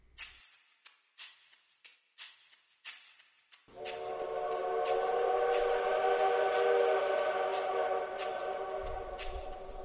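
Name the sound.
distant train whistle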